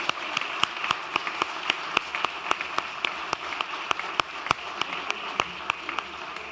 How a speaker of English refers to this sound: Let's give them all an amazing round of applause.